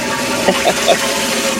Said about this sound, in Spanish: Está en el baño, lo bajaron dos veces.